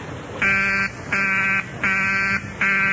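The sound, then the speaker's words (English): A telephone busy signal on a call to Dr. Kendall's line: four steady, buzzy tone bursts pulse on and off in an even rhythm, each about half a second long, fairly loud, with no voices. “His line's still busy.”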